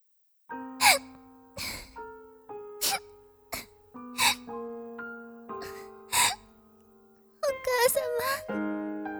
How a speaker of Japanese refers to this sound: 名を灰かぶりと嘲笑われながらもけなげに働く美しい娘。おや、彼女の泣き声が聞こえてきませんか。